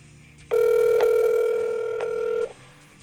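A telephone line tone sounds alone as a phone call is placed, one steady mid-pitched buzzing note held for about two seconds, with a couple of faint clicks along the way before it cuts off.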